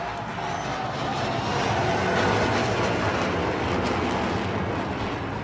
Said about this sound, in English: B2 bomber flying. That was unreal.